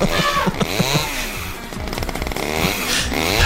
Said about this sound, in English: It all got solved eventually by a massive McCullough chainsaw.